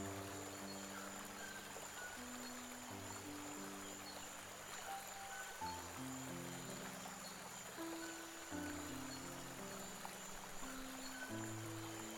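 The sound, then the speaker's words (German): A steady, continuous flow of stream water rushes and babbles throughout, blended with soft sustained musical chords that shift slowly underneath; no one speaks. “Nimm das Holzstück und wirf es schwungvoll in das fließende Wasser vor dir.”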